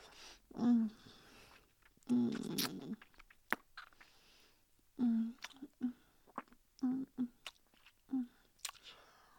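Crisp crunching of food being chewed, a series of loud bites and munches coming in uneven bursts with short pauses between them.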